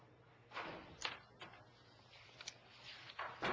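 The doors to the lobby of a council chamber being opened to invite people back in: a few faint clunks and soft thuds spread unevenly over a few seconds, with quiet shuffling and low room hum between them.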